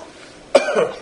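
A single cough bursts out sharply, then trails off into a rougher, raspy tail for about half a second against a quiet background.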